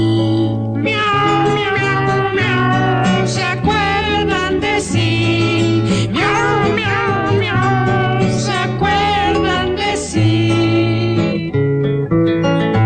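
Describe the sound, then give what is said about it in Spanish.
A singing voice imitates cat meows in sliding, repeated 'meow' syllables, carried over steady, loud instrumental music that plays throughout without a break. “Porque miau en tu miau y yo miau, pues me acuerdo de ti.”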